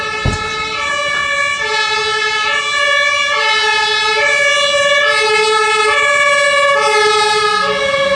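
A fire engine passes by at the Christmas market on Breitscheidplatz by the Gedächtniskirche, its siren wailing loudly and steadily, the two-tone pitch alternating up and down in a repeating cycle over a low rumble of traffic, with no talking.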